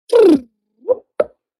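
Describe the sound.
A voice imitates a humpback whale whoop call, a call that humpback whales worldwide produce: a loud, low, downward-sweeping whoop followed by two short, softer pops or grunts, with no other talk.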